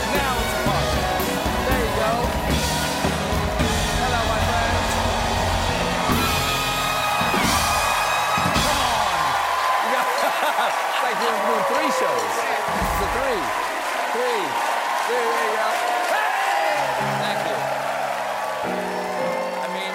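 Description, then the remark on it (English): The studio audience of The Late Show at the Ed Sullivan Theater in New York City cheers and applauds loudly and steadily as Stephen Colbert runs out, with rising whoops and scattered yells riding over dense clapping that keeps going the whole time. “I gotta say, I love running out to a crowd like this.”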